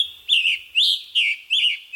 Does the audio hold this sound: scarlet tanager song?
yes